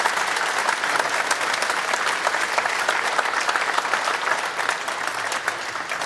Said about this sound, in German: Schönen guten Morgen, willkommen mit einem Applaus.